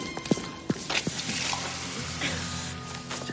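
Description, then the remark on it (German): Water splashes and trickles steadily, like liquid being poured into a glass, with a few soft clinks at the start and a continuous hiss of flow underneath. “Soll ich Ihnen ein Glas Wasser holen?”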